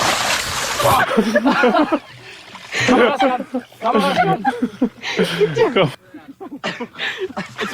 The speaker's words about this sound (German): Es hört sich alles sehr feucht an, es hört sich nach einem großen Platsch an. Oh Gott. Er ist samt Kamera, ist er in das Fidschi-Wasser reingefallen.